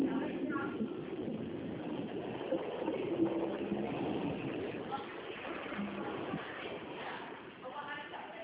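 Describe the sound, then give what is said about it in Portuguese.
A car engine rumbles steadily as the vehicle pulls off, a constant low roar with faint muffled voices in the background. “Sai carro aí, ó. Aí sai carro, espera.”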